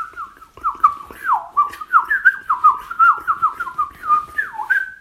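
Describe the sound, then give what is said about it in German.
A blackcap sings a bright, loud, fluting song of clear whistled phrases with swooping slides, flowing almost without pause, with no other sounds. “Dann natürlich die Mönchsgrasmücke, die schnelle Amsel, wie wir sie auch nennen, mit ihrem...”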